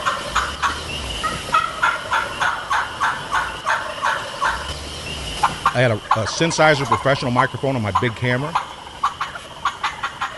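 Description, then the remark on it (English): Wild turkeys gobble repeatedly right after daylight on a farm in the Ozarks, rapid rattling calls recurring throughout the outdoor recording, while a man speaks over the middle part. “And my guys are logging where these turkeys are gobbling.”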